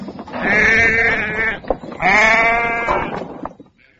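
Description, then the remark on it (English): Two loud sheep bleats in a field, each a long wavering cry of about a second and a half, separated by a brief pause, with no talking. “The next day, a wolf did come to the field. It wanted to eat the sheep.”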